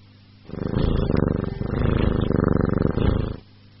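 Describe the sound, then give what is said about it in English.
A cat purrs steadily for about three seconds, a low rhythmic rumbling pulse with no other sounds around it. “It's a cat.”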